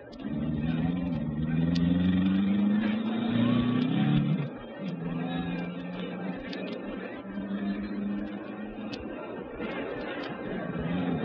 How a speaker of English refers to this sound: The cars were being driven slowly into their starting positions along the track.